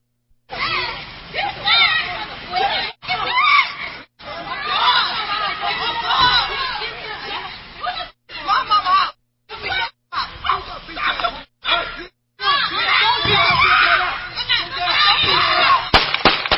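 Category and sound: crowd, people shouting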